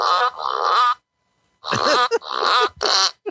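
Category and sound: sound effect, fart machine sound effect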